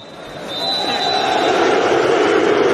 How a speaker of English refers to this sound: I feel like we've really pushed forward this area of study to the point now where you don't really have to look too far for audio of full-time Goodison booing. Here it is from the field, you know, raw audio.